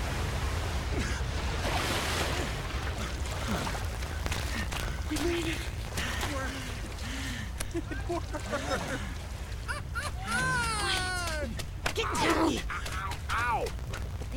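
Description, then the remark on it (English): A powerful surge of water roars through a waterfall in a loud, steady rush, with scattered chirping, whistle-like calls rising above it toward the end. “The surge of water blows through the waterfall.”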